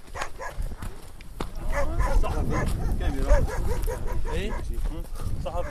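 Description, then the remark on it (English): A wild pack of dogs barks and yips in a busy, overlapping chorus, some whimpering, while chasing people at night on a dark hillside in Syria near the Turkish border. The barking is loud over a rough outdoor background, with a voice briefly audible beneath. “A wild pack of dogs seemed to be chasing us at one point.”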